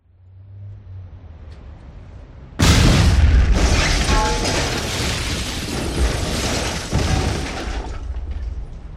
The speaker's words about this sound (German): In der Innenstadt explodierte die Fassade eines ansonsten unverdächtig aussehenden Bürogebäudes. Eine dunkle Rauchwolke stieg entlang der Hausfront nach oben.